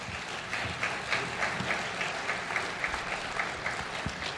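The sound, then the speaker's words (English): Steady audience applause for a panel at a service: many hands clapping in a dense, continuous patter at moderate volume, with faint accents of individual claps throughout and no voices over it. “Let's applaud our panel again.”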